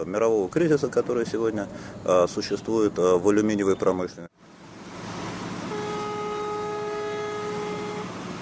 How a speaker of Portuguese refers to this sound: No entanto, dia após dia, enormes quantidades de bauxite são transportadas em comboios de carga até a capital provincial, Quíndia, e do porto de Conakry seguem de navio para a Ucrânia.